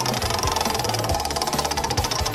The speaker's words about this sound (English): Now you've been smashing our scoreboard so far, but the game's not over yet. Let's get going and spin the wheel!